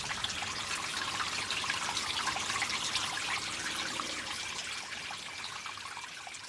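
Steady trickling of spring water, a continuous bright babbling flow with fine splashy detail, moderately loud, with no voices.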